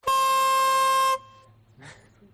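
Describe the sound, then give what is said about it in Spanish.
A chifla signal horn sounds one loud, steady blast lasting about a second, bright and brassy with a fixed pitch, then cuts off sharply, leaving faint murmuring voices. “Ha sonado la chifla.”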